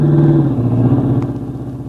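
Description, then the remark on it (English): A car engine rumbles loudly as the car comes along a road, its low droning hum dipping slightly in pitch and fading a little as the vehicle drives past. “Duck, here comes the car.”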